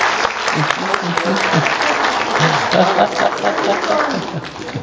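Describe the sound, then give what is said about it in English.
Steady, loud applause from a group welcoming fellowship leaders who come forward. The applause fills the whole stretch, dense and continuous, with a few voices murmuring underneath. “Let's welcome them with applause.”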